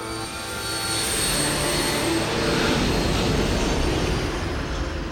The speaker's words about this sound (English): Up in the torch, Eric turns his head and watches as the sleek jet turns from its hover at the torch and flies into the night sky.